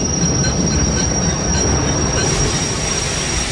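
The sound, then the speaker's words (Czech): Ride-train wheels squeal steadily against the rails, a thin high-pitched whine riding over a loud, constant rumble for the whole stretch, with no voices. “Už jste někdy jela zábavním rychlíkem?”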